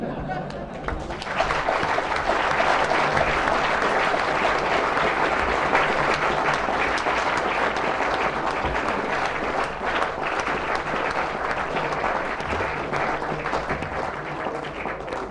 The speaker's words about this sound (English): I think the applause indicates how excellent a lecture you've given, and certainly I think the most entertaining in our series.